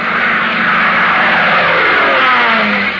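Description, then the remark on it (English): A propeller airplane's engine drones steadily and loudly for the whole stretch, its pitch shifting slightly as it seems to pass overhead, with no voices. An unidentified plane flying over the Pacific coast, heading inland. “When an unidentified plane was spotted flying over the Pacific coast, heading inland, neither Hop Harrigan nor his mechanic pal Tank Tinker, assigned to track it down, imagined what they were letting themselves in for.”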